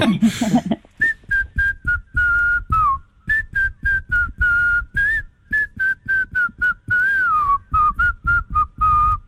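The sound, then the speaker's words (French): A person whistles a long, choppy run of short, clear notes around the same high pitch, with occasional slides and warbles, mimicking a nightingale's song. A brief noisy burst precedes it. “Ou plutôt au rossignol. Chante, rossignol, chante.”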